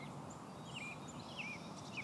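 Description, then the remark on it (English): Birdsong carries faintly: a few high, sweeping chirps and whistles repeat over a steady hiss of outdoor background noise. No one speaks. “Now notice the sounds around you. Hear the birdsong.”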